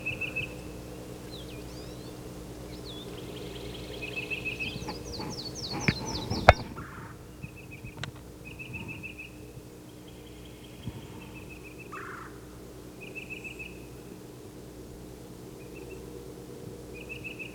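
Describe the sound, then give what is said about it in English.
A color-banded titmouse known as Yellow Yellow calls in short bursts of quick, high, whistled notes, repeating every few seconds and getting an answer, over a steady low hum, with a brief louder clatter partway through. “I can't see what titmouse is calling.”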